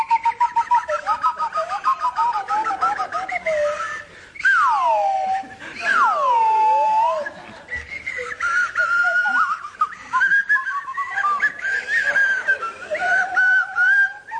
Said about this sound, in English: will you pick up your whistles? Yes. And play your tune now for the others. This one's damp.